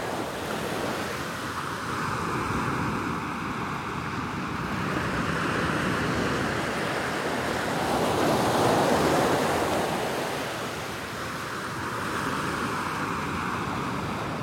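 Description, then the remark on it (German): Steady ocean surf rolls in continuously, with waves swelling and breaking in a broad wash while wind rushes across the microphone; one wave builds noticeably louder midway before easing back. “Die Weite der belebten Wasserfläche vor den Augen und der Wind, der über das Gesicht streicht und Wasser und Luft miteinander verbindet.”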